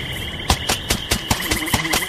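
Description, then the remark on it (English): Dense marsh ambience with a steady, high insect chirring that runs throughout, punctuated by a series of sharp, evenly spaced clicks or ticks. No one speaks. “A dense marsh area.”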